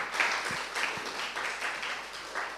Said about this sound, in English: Yeah, worship team, thank you so much. Let's give them another big hand clap.